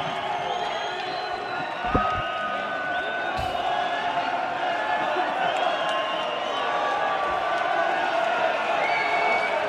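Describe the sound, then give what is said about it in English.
A large arena crowd at a boxing showdown cheers and roars continuously as the champ, Jackal Frampton, comes out, a dense wash of voices and whistles at steady loudness, with a couple of sharp thuds early on. “And the crowd goes wild.”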